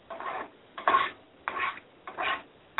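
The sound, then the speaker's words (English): Dishes and pans being handled at a kitchen sink: a steady series of rasping, scrubbing strokes, about one every half second, moderately loud, with no voices. “Who's doing dishes? I'm cooking.”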